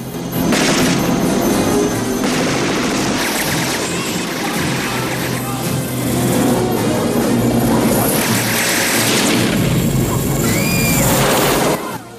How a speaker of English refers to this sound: Banks mans the chopper's machine gun and exchanges fire.